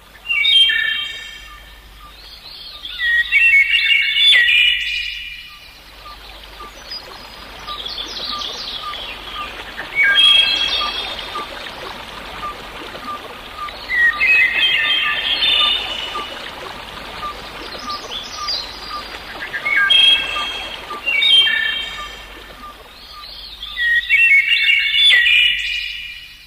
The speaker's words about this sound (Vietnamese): Một con họa mi nấp trong bụi rậm mọc sát bờ ao cất tiếng hát líu lo.